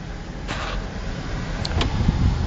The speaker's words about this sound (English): It's 99 degrees. So hold on. Here comes the air conditioner.